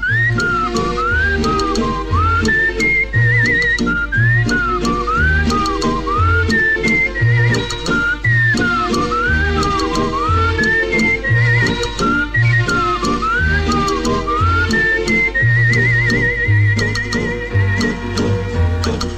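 A bright whistled melody with swooping, sliding notes carries a cheerful tune over a full band backing with steady bass and drums, loud throughout.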